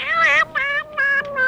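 A lost cat meows plaintively several times in quick succession, each cry short, high-pitched and tonal, fairly loud with no talking.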